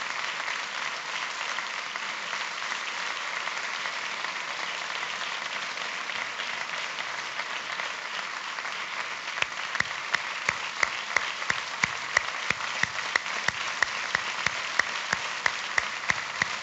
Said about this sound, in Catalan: Sens dubte, l'ovació de la nit amb un ram de flors i un, evidentment, premi al Memorial Joaquim Gorgori, a la vídua del Dani Montesinos, del Daniel Montesinos.